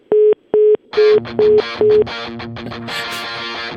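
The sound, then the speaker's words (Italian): A telephone's hang-up tone beeps five times in quick, even, clear pulses after the other party hangs up on a call, while a dense burst of music rises under the later beeps and carries on alone. “Attacco telefono. Riprova un attimo, riprova.”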